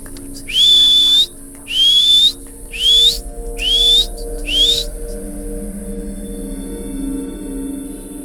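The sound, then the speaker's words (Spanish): A person whistles five short, rising notes in quick succession, each sliding upward in pitch, loud, with a quiet background afterward and no talking. “¿Lo que quieres es que te chifle? ¡Pues te chiflo!”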